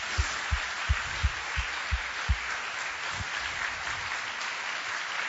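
An audience at a worship service claps together, giving a clap offering of praise to Jesus, in a steady, rhythmic beat of about seven sharp claps, then the rhythm loosens into scattered, softer applause over a constant crowd hiss.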